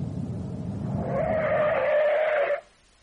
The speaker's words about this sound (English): Far off. In the direction of the village, two lights shone like the eyes of a cat. Then they grew and merged, and behind them came the sound of an engine, and behind that, the police.